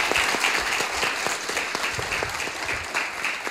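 Steady audience applause at the Teatr Stary for author an author, broadcast on Polish Radio Program Three: a dense wash of many hands clapping at an even, sustained level with no voices over it.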